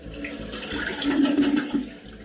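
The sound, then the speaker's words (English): Water rushes and gurgles through plumbing as the water supply is cut off, with an irregular, sputtering rumble that swells in the middle and then tapers off, moderately loud, with no voices. “What a noise. Sounds like the water's being cut off.”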